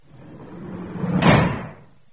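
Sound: door slamming shut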